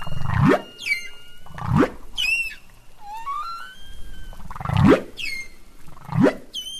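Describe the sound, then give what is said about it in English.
Humpback whale song with repeated low rising whoops and moans alternating with high sweeping cries and descending chirps, in a rhythmic sequence of units; loud and clear, no voices. “So each humpback whale is kind of like its own symphony?”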